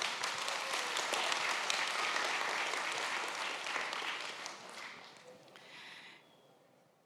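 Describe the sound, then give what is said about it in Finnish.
A crowd applauds a publisher with dense, continuous clapping that holds strong for several seconds, then thins out and fades toward the end. “aplodit”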